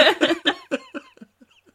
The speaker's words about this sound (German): Ich rauche, sie hustet.